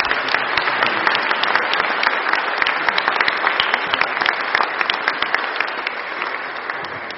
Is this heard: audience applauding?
yes